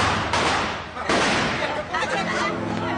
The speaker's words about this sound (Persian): فکر کنم صدای تیراندازی بود.